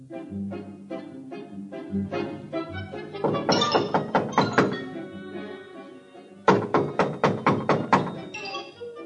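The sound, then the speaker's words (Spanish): Someone knocks on a wooden house door for a long time in several rounds of steady raps, softer at first, then louder and more insistent, each knock sharp, with a faint low hum beneath. “Estuvo llamando mucho rato, sin que nadie pudiera acudir a abrir.”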